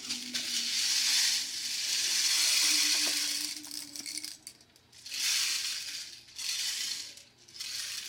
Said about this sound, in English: hands the rain stick to his teacher. She turns it over and waits. He shakes the beads in his right hand.